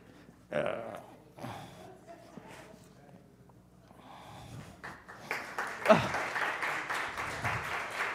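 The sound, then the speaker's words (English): Scattered sounds and a bit of voice give way to a crowd breaking into steady applause that fills the last few seconds, moderately loud and sustained. “Don't clap, it's your turn.”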